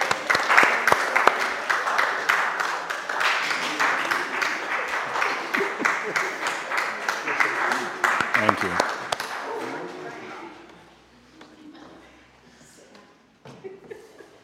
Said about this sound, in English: So let's give them a bit of a round of applause and say thank you.